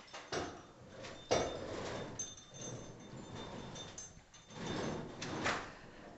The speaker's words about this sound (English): So can always crack this door if the wind's not coming from that way.